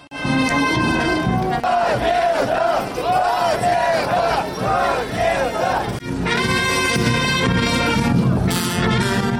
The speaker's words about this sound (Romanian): Coloana Partidului Comuniștilor, în frunte cu Vladimir Voronin, a pornit de la Arcul de Triumf și a fost însoțită de o fanfară care interpreta cântece sovietice, iar mulțimea scanda ura și victorie.